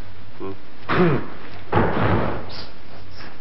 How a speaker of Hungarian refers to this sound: Na, hallottam, hogy valami leesett. Nem esett le semmi, csak ez a pisztoly sült el.